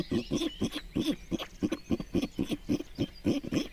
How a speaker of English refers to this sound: And then follow me, if you will, to the pigs. Here we have the beautiful Penelope Pit Stop.